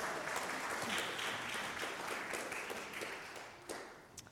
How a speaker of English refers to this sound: Thank you so much. You can give my assistants a round of applause.